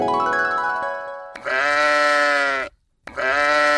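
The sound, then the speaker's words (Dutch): A sheep bleats several times in loud, drawn-out, wavering cries with a nasal, buzzy tone, separated by a brief silence. No one speaks. “Schaapje over de dam. Schaapje?”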